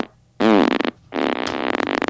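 A loud, close fart in two bursts: a short buzzy one with a wavering pitch, then after a brief pause a longer, fluttering, sputtering stretch, with no talking.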